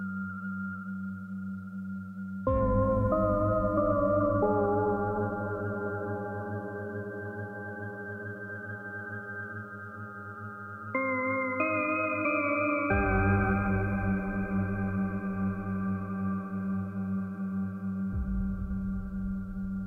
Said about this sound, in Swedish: Vi kan ju kanske spela upp en liten snutt från någon ambiensmusiksekvens här.